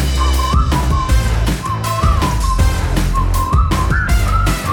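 A bright whistled melody rides over a full, loud band with steady drums, the tune gliding and repeating in short phrases throughout.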